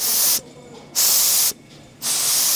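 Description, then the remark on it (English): A steam iron hisses in three loud bursts of steam, each about half a second with brief pauses between, sharp with no voices, as the iron steams a knitted sample on a large steam bed to relax it. “When you are finished making your prototypes or knitting your samples, you would bring them over to the large steam bed and you would take the iron and then steam the sample to relax it and see what the finished garment would look like.”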